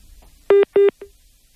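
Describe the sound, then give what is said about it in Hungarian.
Two loud, steady electronic beeps in quick succession, then a shorter fainter third: a phone line's disconnect tone after the caller hangs up. No one speaks. “Lerakták a telefont.”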